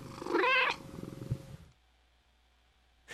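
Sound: cat purring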